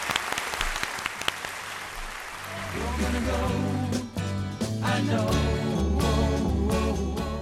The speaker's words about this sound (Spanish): Oye, el aplauso del día para Fuerteventura. Ah, venga, el aplauso del día. Enhorabuena.